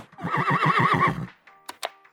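A horse whinnies loudly, a shrill, quavering neigh lasting just over a second, followed by a few short electronic beeps like telephone keypad tones.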